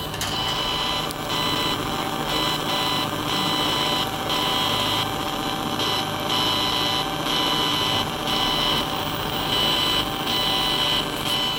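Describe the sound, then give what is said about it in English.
A strange electronic sound from a speaker at a bus stop in Worcester, set about head height on the edge of a map screen: a steady, loud, mechanical-sounding buzz and whir with layered high tones and regular pulsing beats, continuing without pause and no voices. “Okay, we're here at the bus stop in Worcester, and it has a speaker that makes a very strange sound.”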